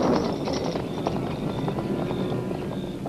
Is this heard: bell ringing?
no